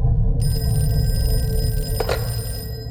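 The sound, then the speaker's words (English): A telephone rings with a steady, bright electronic tone that starts abruptly and holds, layered over a low rumbling hum, with no one speaking; it is a phone call just after midnight on February 26, 1979, waking Chuck Cleaver. “Just after midnight, he was woken up by a phone call.”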